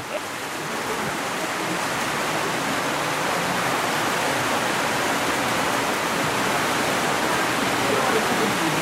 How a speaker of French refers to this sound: Oh là là, quelle pluie ! Ça redouble là. Hein. Hein ? Ça redouble la pluie. En plus, comme on est sous une petite baraque en tôle, ça va prendre d'autant plus d'écho.